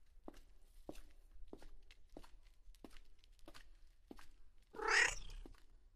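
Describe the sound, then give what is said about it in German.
Steady footsteps tap along at an even pace in a church, then a single drawn-out meow from a black tomcat rings out clear near the end, louder than the steps. “Karina bückt sich zu ihrem schwarzfälligen Begleiter, der ihr wie ein Schatten um die Beine streicht.”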